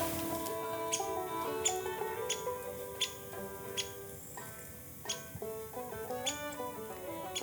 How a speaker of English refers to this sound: I love the high-pitched squeak of the downy woodpecker. It almost sounds like my dog's chew toy.